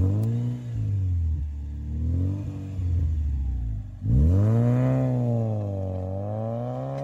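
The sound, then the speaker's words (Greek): The five-cylinder two-litre engine of a coupe, of about 225 to 250 horsepower and nicknamed the poor man's Ferrari, revs repeatedly, its pitch rising and falling in smooth sweeps, then climbs hard after a brief dip and wavers at high revs, loud with no talking. “Και ειδικά ο πεντακύλινδρος, δίλητρος, νομίζω με 250 ύπους που λέγανε Ferrari του φτωχού.”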